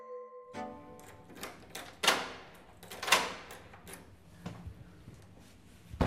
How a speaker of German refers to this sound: öffnet Heide Alsat die schwere Tür zu einer fensterlosen Box